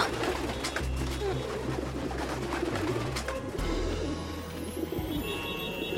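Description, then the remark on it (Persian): Pigeons in Paris coo in low, repeated rolling bursts, fairly loud, over a busy outdoor background with some voices and a brief flutter of wings. “کبوترها پاریس رو به تسخیر خودشون درآوردن.”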